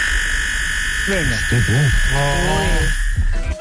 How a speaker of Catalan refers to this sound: La meva pregunta és, ell que és tan entès en música, m'agradaria que m'aclarís quina nota fa el seu timbre que ens ha enviat. Perquè jo he estat com comprovant-ho i no sé si és un si bemoll o un si natural. Escolteu.